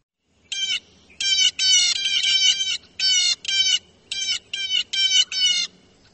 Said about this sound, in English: And now, the blue jay.